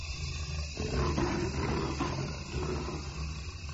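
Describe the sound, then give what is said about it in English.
A jaguar in the Amazon rainforest of Brazil growls into Bernie Krause's recording microphone, a deep, rumbling, sustained snarl with a rough, gravelly texture that swells loudly after a brief opening and continues without pause. No one speaks. “The big cat had stepped right up to the microphone and, like a great singer, began to growl into the device.”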